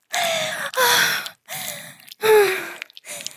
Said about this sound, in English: So, how's it sound? You think you'll remember this the next time you're feeling needy? You think you'll remember the sound of my heavy breathing?